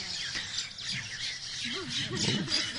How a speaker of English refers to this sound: No, oh my God, these are not parrots. I'm saved. These are other birds, not the parrots.